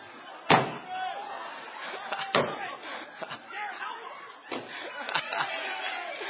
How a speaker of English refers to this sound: Here we go. Cheer for your people. On your mark. Get set. Go.